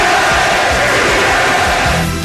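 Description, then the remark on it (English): A huge arena crowd of Sixers fans chants "Beat L.A.", many voices merging into a loud, dense roar with a rhythmic, shouted cadence. The crowd noise stays steady for the whole moment. “You hear the crowd is chanting to the Sixers?”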